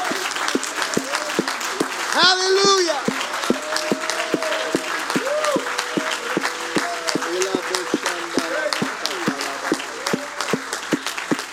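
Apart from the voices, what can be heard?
audience clapping hands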